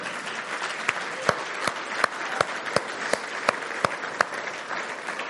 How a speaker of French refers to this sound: Et c'est Dieu qu'on applaudit, parce que tout ce qui est de bon en nous, c'est Dieu qui le fait.